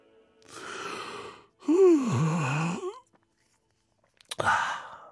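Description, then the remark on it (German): A person yawns loudly: a breathy intake, then a long voiced groan that slides downward, and after a short pause a final breathy exhale. Nobody speaks. “… gähnt schon wieder.”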